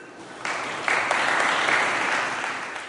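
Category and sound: crowd, applause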